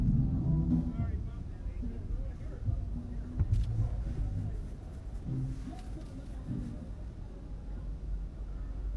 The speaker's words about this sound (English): Okay, this shredder truck is not actually making the turn, are they? No, they are. That's not... this paper shredding truck. Alright, you're trying to back into that space. That's what you're trying to do.